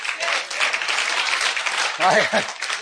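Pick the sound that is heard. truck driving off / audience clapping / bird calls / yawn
audience clapping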